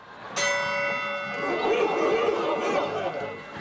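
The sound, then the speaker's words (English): A waitress strikes a bar bell once, signaling patrons to take a shot. Its bright metallic ring sustains and slowly fades over the steady murmur of a chattering, busy bar crowd. “A waitress rings a bell.”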